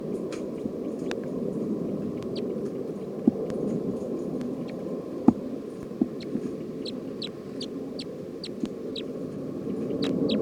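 Bird calls from a bird being recorded as bird 310, a steady series of short, high chirps repeating throughout over a constant low rumbling hiss, with a few sharp clicks scattered in. No one speaks.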